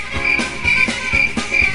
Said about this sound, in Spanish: Póngamele los grillos que se los ganó otra vez.